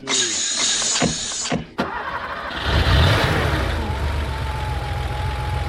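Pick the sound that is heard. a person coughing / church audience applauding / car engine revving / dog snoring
car engine revving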